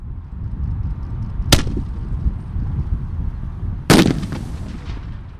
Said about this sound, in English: He sets a watermelon next to the firework, lights the fuse, and quickly backs away.